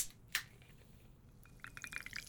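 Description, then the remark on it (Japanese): Soda being poured into a glass over ginger syrup to make homemade ginger ale, with a sharp clink near the start, then a rising burst of fizzy crackling and bubbling that grows busier toward the end, quiet. “あら、思ったより泡立つわね。”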